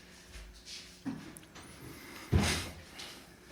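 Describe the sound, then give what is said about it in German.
A door is pulled shut, with a soft bump followed about a second later by a firmer closing thud and a brief rattle, against a quiet background. “So, wir sind, warte, ich muss die Tür zu machen, halt.”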